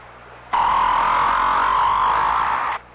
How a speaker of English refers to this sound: If you agreed with these guesses, you've been fooled. Because each sound was made by a whale. That's right. A great big blubbery old whale just buzzing and clicking and grunting away deep down in the ocean.